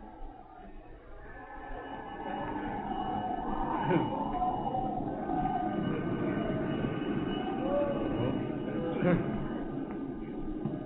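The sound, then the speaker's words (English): A steady, dense roar of city street traffic rising from wind-swept streets far below on clear, frosty air, with a low rumble and a few brief tonal swells, holding an even loudness throughout with indistinct voices blended in. “Far below, on the wind-swept streets of the city, the roar of traffic rises on the clear and frosty air.”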